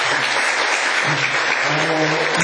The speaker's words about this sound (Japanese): はい、皆さんありがとうございました。もう一度皆さん大きな拍手お願いします。